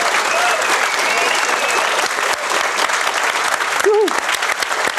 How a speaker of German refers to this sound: Ein extra Applaus für die Shownoter, bitte. Die Shownotes. Yay. Mit einem wahnsinnigen Applaus.